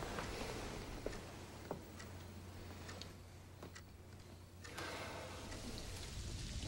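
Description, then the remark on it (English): Steady rain hisses outside a house, with scattered drips and soft ticking impacts over a faint low hum, continuous and moderately loud with no voices. “Now rain falls outside Jeff's house.”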